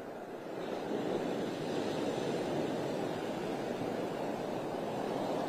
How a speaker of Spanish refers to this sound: Bueno, y como dicen los habitantes aquí de Vero Beach, el mar todavía está muy bravo. Yo creo que ustedes lo alcanzan a escuchar, que todavía está rugiendo.